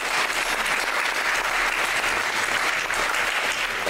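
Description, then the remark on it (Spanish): An audience at Country Day school claps steadily for several seconds, a dense, even wash of many hands with no pauses and no voices standing out. “Aplausos por eso.”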